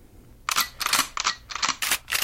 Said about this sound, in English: GoldenEye loading? Exactly it. Specifically GoldenEye. That's impressive. Wow, yeah, I was going to say, I had, it was a loading sound.